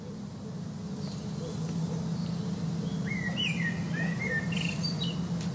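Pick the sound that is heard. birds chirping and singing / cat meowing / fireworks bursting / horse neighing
birds chirping and singing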